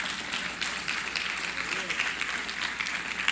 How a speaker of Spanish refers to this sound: Dele la gloria al Señor, dele el aplauso.